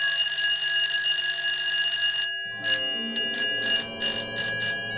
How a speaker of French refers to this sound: Alors tu vois, dans mon rêve, il n'y a pas du tout de sonnerie d'école aussi désagréable que celle-là.